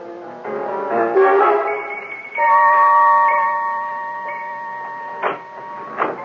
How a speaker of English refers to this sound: Eh bien, chérie, wait here till I turn off the alarm.